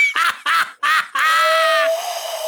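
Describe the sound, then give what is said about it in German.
Three short, nasal hoots from a person, followed by one longer drawn-out note that thins into a steadier whistle-like tone. It's a loud whistled imitation of an owl call. “Was bist du denn für eine Eule?”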